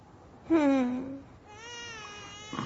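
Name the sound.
baby crying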